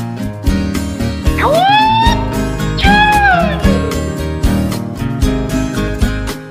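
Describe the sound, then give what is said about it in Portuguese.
A cat meows twice in close succession, each a drawn-out rising-then-falling cry, heard clearly over a steady, rhythmic music backing that plays throughout. “Vai, gato!”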